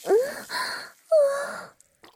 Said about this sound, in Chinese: 女神大人像是做了什么剧烈运动一样疯狂喘气，不过现在也是在做剧烈运动就是了。